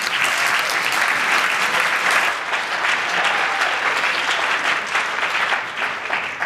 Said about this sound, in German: Einen ganz herzlichen Applaus für Open Day Town.